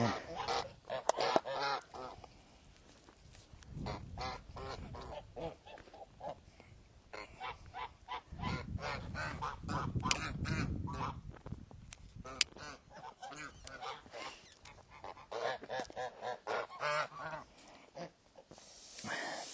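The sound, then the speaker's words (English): A flock of geese honks and squawks almost nonstop, loud overlapping calls with a few harsh hisses mixed in among them. “I know most of their voices. That one that's hissing, I don't know.”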